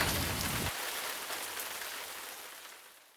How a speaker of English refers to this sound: Well, that's it for today. I'm gonna walk home in the rain.